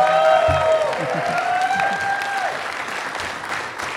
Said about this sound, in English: Let's give a round of applause. And can we keep that applause going for our guest